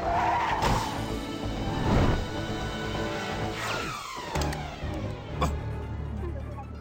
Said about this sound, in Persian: ترمز هوایی روشن.